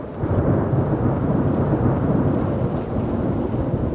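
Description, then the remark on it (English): Deep, sustained rumbling thunder from a late-afternoon monsoon storm in New Mexico rolls continuously for the whole stretch, loud and low, with a steady wash of rain hissing underneath. No one speaks. “The National Weather Service's description, abundant moisture, slow-moving storms, is music to the ears of New Mexicans, as is the late afternoon thunder.”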